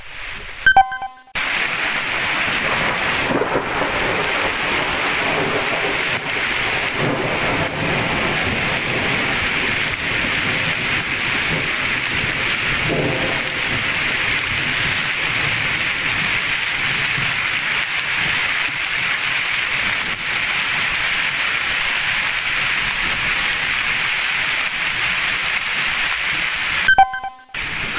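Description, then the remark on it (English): Soft rain falls steadily in Arkansas for nearly half a minute, an even, unbroken hiss with occasional faint patters, alone without any voices, and brief tinkling tones at the very start and end. “Nice soft rain.”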